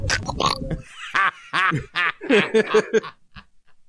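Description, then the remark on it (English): A person imitates a cartoon duck voice, a burst of raspy, squawking syllables in quick succession, fairly loud, followed by a short pause and one faint squawk. “That's Donald Duck talking about smacking his bitch around.”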